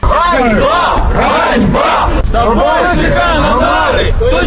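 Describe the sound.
A crowd of students in Dnipropetrovsk, protesting against education minister Dmytro Tabachnyk, shouts in unison, loud rhythmic chanting voices rising and falling in repeated bursts over a constant roar of babble.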